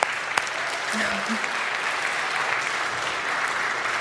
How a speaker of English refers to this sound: You can give a clap